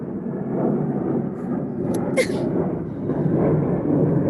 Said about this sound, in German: Jetzt fliegt gleich ein Flugzeug über meine Terrasse, weil wir wohnen ja sehr nahe am Flughafen.